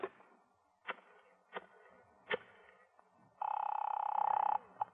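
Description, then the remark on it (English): A few sharp clicks at uneven intervals as a wall telephone is dialed, followed by a steady buzzing phone tone for about a second and one last click. No one speaks. “May I use your phone? Yeah, right here on the wall.”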